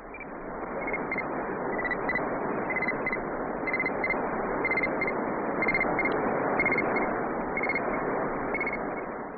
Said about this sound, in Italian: Quelli che sembrano grilli sono invece gli impulsi corrispondenti alle lettere H e I del codice Morse, che il trasmettitore di Oscar I modula incessantemente.